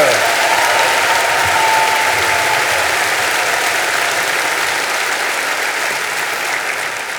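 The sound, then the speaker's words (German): Loud, sustained applause from a large audience for a Viennese debutante after a fiery Spanish paso doble, a dense wash of clapping that stays steady for several seconds and tapers only slightly toward the end. “Geben Sie sich einen riesigen Applaus, die Wiener Debütantin mit einem feurigen spanischen Paso Doble.”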